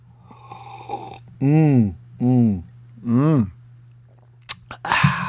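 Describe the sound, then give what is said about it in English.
Someone takes a sip of a beverage: three loud, throaty gulping swallows in a steady rhythm, then a couple of sharp clicks and a breathy exhale. “I'm going to have a sip of this beverage.”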